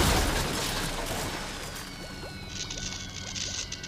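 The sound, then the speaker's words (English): A spaceship crashes into a river near the Eiffel Tower: a loud, broad roaring impact at the start that slowly fades into rushing, crackling splashes and a high whine, with no voices. “It crashes into the water.”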